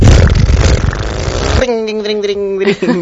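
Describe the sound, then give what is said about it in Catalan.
A voice imitates a revving motor engine: a rough, buzzy rumble for about a second and a half, then a rising, pitched vroom with harmonic tones. Loud, with no other talk. “I, no sé, mil coses, motors, així com”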